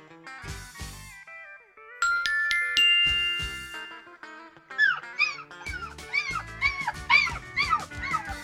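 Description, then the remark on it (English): A puppy that fell in wet mud whimpers and yips in a quick run of high, pleading cries, fairly loud, after a brief stretch of tonal, musical-sounding noise. “Jen has to help the pup that fell in the wet mud.”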